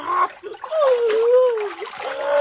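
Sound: water splashing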